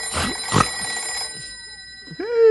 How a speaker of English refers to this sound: It's only the phone.